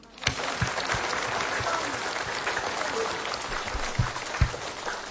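A crowd applauds steadily for about five seconds, dense clapping that fills the space at an even level, with a few sharper claps standing out near the end.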